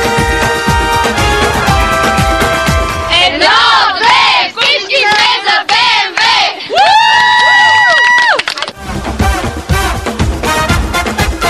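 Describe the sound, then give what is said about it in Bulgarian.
A group of women, the Jim Beam girls, cheer loudly for their football team, BMW Club Bulgaria, with high-pitched shouts, rising whoops and chant-like calls overlapping in a sustained, energetic burst that barely pauses. “Чуйте как момичетата на Джим Бим горещо подкрепяха своят тим.”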